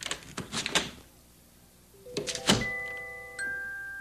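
A latch rattles and clicks, then after a short pause a door swings open with a thump and a long, high, squeaky hinge creak as someone lets herself into Grandmother's house, with no one speaking.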